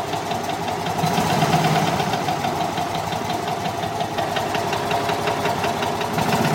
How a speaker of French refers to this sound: Le moteur d'une Fiat, c'est ce que vous nous aviez demandé. Oui, parce que ma première voiture à Paris, ça a été la Fiat, une petite Fiat 500.